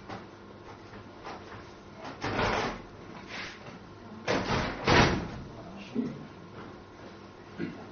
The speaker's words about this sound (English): And if you could shut the door there so that doesn't happen anymore.